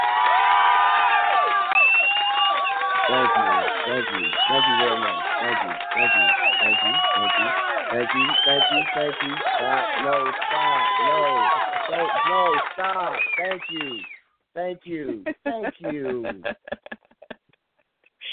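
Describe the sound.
An applause sound effect of a crowd cheering and shouting excitedly, many overlapping voices whooping at a steady loud level for about fourteen seconds before breaking into choppy bursts.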